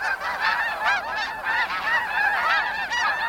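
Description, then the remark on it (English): A flock of geese honks continuously, many overlapping nasal calls rising and falling in a busy, fairly loud chorus with no pauses, without any talking. “Geese migrate north between February and April, making stopovers along the way to rest and eat.”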